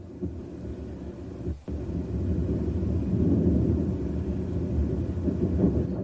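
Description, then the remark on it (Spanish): Deep, rolling low rumble of infrasound, one hour of real-time data compressed into nine seconds, recorded as a space shuttle broke apart; thunder-like and dense, with a brief dip early on before steady surging bursts of energy continue to the end. “Es una pista de audio comprimida. Lo que oímos primero son explosiones de energía.”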